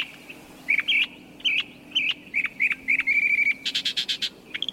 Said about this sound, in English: With such extensive knowledge of the great American songbird book, mockingbirds really are the crooners, or croakers, of the bird world.